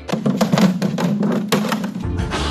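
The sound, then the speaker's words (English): A deer trying to get into a child's toy drum stumbles onto it, giving a quick, uneven tumble of roughly eight hollow thumps and taps, like a clumsy drum fill, followed by a duller low rumble at the end. “instead of hearing that, you hear the poor deer just trying to get into this child's plaything and stumble upon it in almost the exact sound as that drum fill.”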